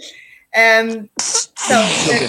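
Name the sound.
sneeze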